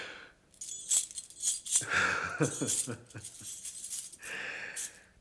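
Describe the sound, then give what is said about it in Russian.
A bunch of keys is thrown down by a woman and jangles in bright metallic clinks, a few scattered rattles spread over several seconds, moderately loud. “Бросила ключи.”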